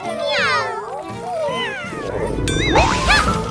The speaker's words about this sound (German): Ah, süße kleine Kätzchen, sie sind deine Freunde, habe ich recht?